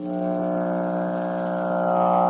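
A loud, steady electric power hum shaped through a Sonovox: a continuous buzzing drone rich in stacked harmonics, holding unchanged pitch for a couple of seconds with no talking.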